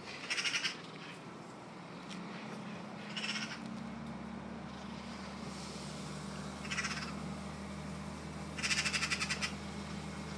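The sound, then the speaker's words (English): A magpie gives four harsh, rattling chatter bursts, the last the longest and loudest, spaced a few seconds apart, at a bird-feeding spot where it keeps blue tits and a wren from feeding, over a steady low rumble from a tipping lorry engine. “And a crabbit. Magpie.”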